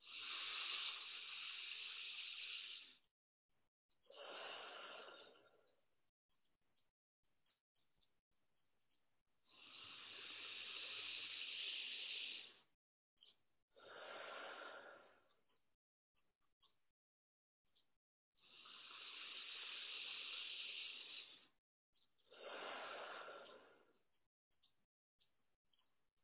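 Loud, hissing breaths through the right nostril repeat three times in a breathing exercise, each a longer drawn breath followed by a short, forceful blowing exhale, with brief quiet gaps and no talking.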